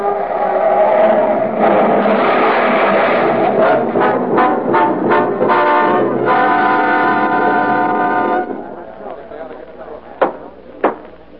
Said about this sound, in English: With an unconscious man at the wheel, the car glides downward. At the bottom of the grade, a traffic light blinks red at a crossroad. The car hurtles toward it faster and faster, then swerves madly into the cross traffic.